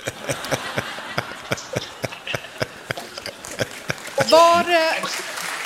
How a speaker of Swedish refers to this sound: Det där var en applåd till dig